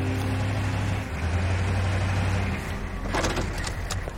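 A car rolls up with a steady low engine rumble whose hum shifts pitch as it slows, followed by a short burst of clattery noise near the end. No voices.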